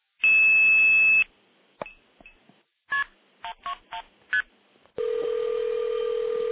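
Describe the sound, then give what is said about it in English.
A telephone line hums with a dial tone, then a quick run of touch-tone beeps is keyed in, followed by a steady, loud tone as the call rings through a telephone switch to a local phone in a basement switch room. No one speaks. “And you can hear it ringing my my phone.”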